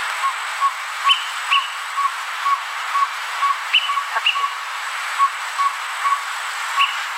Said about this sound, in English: And I happen to pull up the greater peewee, just so you know. And I this is what the greater peewee sounds like, so everyone can have an idea of what we're trying to talk about here.